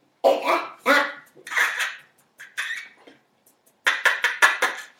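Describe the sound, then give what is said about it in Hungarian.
A man's voice imitates a barking dog, loud: a few separate woofs, a short pause, then a quick burst of rapid yaps. “hogy hát virtuskodtam, tudtam a kutyát utánozni, ugattam”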